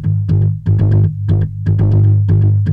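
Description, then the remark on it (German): A synth sequence plays a repeating pattern of bright, gritty notes over a steady droning low tone, with a thick, saturated, distorted edge from the Decapitator saturation plugin, heard first without it and then with it. No voices are present. “Also erstmal den Decapitator. So. Ohne Decapitator. Mit.”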